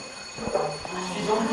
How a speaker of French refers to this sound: Il est 9h20 quand une toute nouvelle sirène résonne.